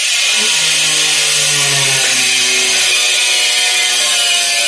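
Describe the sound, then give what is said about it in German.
A power tool like an angle grinder runs loud and steady, a harsh high-pitched whine and grinding hiss with a shifting motor hum underneath, continuous for the whole stretch. “Lehren kann ruhig zu sein, ne? Wenn die Flex nicht läuft.”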